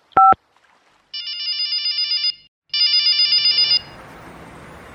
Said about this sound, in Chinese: 林孝莲想到这儿，便掏出手机开始拨打佟一凡的电话。